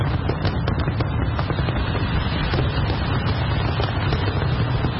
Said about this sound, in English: Johannesburg's skyline was illuminated by thousands of fireworks as South Africans greeted 2025.